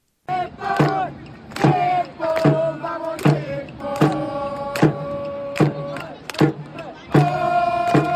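A crowd of Japanese football supporters chants in unison at a match against South Korea, led by a supporters' group on drums striking about twice a second and joined by the Sydney cheerleading group Sakura Kids Cheerleaders, the sustained cheering voices continuous throughout.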